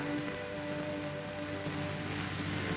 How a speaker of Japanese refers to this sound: 静かな海じゃの。